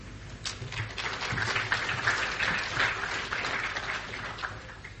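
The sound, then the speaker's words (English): An audience applauds the last presenter, Dr. Devi, after a presentation, steadily for about five seconds, a dense, even crackle of many hands clapping at a fairly constant moderate level with no voices standing out. “Ladies and gentlemen, can you join me in applauding our last presenter?”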